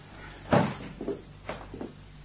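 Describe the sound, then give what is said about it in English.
A door swings shut with one solid, fairly loud thud, followed by a few softer knocks and rattles as it settles. No voices are heard. “You'd better close the door if you don't want the neighbours to hear.”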